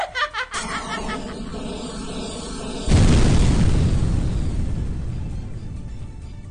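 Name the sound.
explosion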